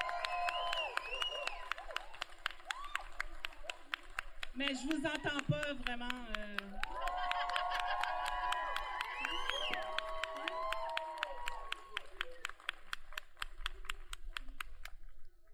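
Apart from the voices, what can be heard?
audience applause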